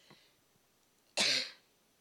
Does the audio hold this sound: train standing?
no